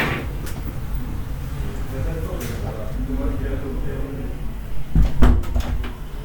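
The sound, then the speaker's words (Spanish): A door is pushed partway closed, producing a couple of sharp wooden knocks and a creak, with indistinct talking and room noise continuing underneath. “Pensé, voy a cerrar un poco la puerta.”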